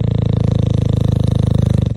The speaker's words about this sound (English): You want to hear the snoring dog one more time? Does Bubba want to take a set?